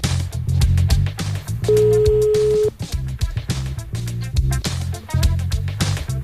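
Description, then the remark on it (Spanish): A single steady telephone ringback tone sounds for about a second during a call to Motril, Granada, Spain, a clear mid-pitched beep over busy background music, then stops without being answered. “Estamos llamando a Motril, Granada. A ver si coge el teléfono.”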